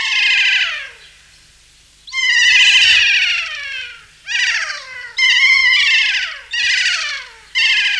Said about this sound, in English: There's also the Kia, a big green parrot, which has this distinctive call.